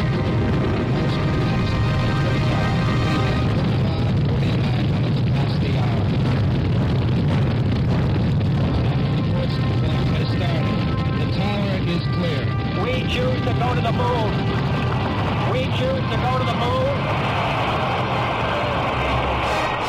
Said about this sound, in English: We have ignition sequence start. Engines on. 5, 4, 3, 2. All engines running.